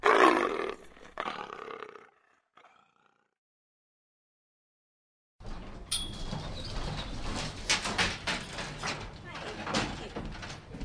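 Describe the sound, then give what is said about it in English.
A leopard lets out a loud, rough roar for about two seconds, followed by a few seconds of silence and then a steady wash of noisy clatter and commotion. “I don't want anything to do with the leopard.”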